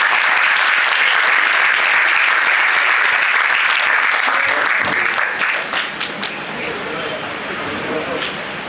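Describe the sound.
An audience claps steadily in a dense, loud burst of applause that eases slightly toward the end, with a few voices mixed in beneath the clapping.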